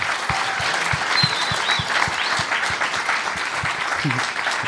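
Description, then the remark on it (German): A crowd claps steadily, a dense wash of many hands with a few sharper individual claps standing out, sustained at an even level throughout. “kleinen Applaus für Moritz, der das heute wirklich alles fabelhaft organisiert hat.”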